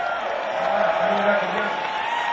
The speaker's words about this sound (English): Let's give Cliff Chandler a big round of applause.